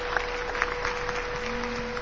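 Steady applause from a crowd in homage during the transfer of the Cristo de la Buena Muerte in Málaga, a dense crackle of many hands clapping at an even level throughout, with a faint constant hum underneath and no voices.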